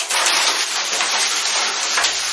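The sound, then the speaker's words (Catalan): A bucket of water is thrown over the wicked witch, making a loud, steady rushing splash that hisses on for about two seconds before cutting off. No voices. “Allà hi ha un cubell d'aigua.”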